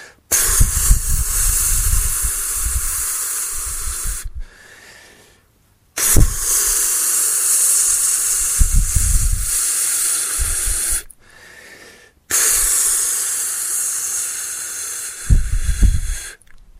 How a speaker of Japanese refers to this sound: まずは練習その1、プーと発音をします。短冊の紙の下側の部分に向かって息を出し続けてください。吹きかけるように発音します。それでは3回やってみましょう。